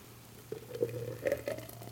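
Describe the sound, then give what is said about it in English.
Thick blended tequila drinks pour into glasses in a few soft gurgling glugs, fairly quiet, over a low steady hum with no one talking. “Let's see if I can pour these without spilling them all over the place.”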